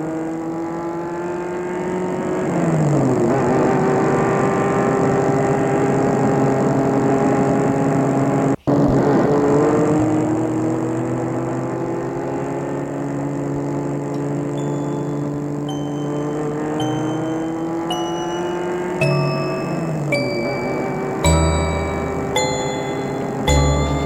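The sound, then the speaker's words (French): A car engine roars steadily at speed as the car travels along a road with no traffic, its pitch rising and shifting as it accelerates, with a few bright metallic dings and clinks chiming near the end. No one speaks. “Et la voiture file, il n'y a pas de circulation.”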